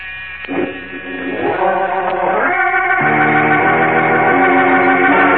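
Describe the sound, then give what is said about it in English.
A door buzzer in a rear office of the Metropolis Music Publishing Company drones steadily for several seconds as the door is opened, stopping once the door is closed, a harsh, loud electric buzz that shifts pitch slightly a few times without pausing. No one speaks. “As Jim Olsen opens the door to the Metropolis Music Publishing Company, a buzzer sounds ominously somewhere in a rear office and ceases only when the two boys have entered and closed the door behind them.”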